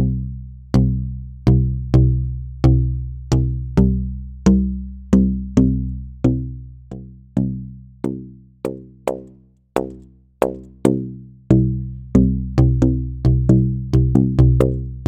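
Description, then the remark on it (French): A resonant telescoping tube struck over and over in a steady, quickening rhythm, each hit ringing with bright harmonics that shift in tone like a sweeping electronic-style filter, as different harmonics come out from one end of the tube to the other; fairly loud with no voices. “ça permet vraiment qu'il y ait un mouvement de filtre de style vraiment électronique d'une extrémité à l'autre du tuyau.”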